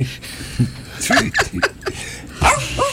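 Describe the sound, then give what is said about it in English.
A dog gives a quick series of short, high-pitched barks and yips, about half a dozen in a loose burst, with a couple of whiny notes mixed in. “Good dog.”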